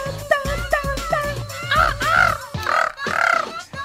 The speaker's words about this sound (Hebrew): זה דולפין עם שחף.